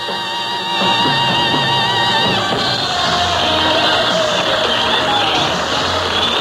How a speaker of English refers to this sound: Well, as you can all tell, it's a gala crowd here at El Patio Ballroom in San Francisco this Saturday night